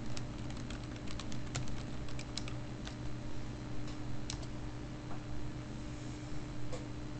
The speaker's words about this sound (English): So, just typing something into the chat room there.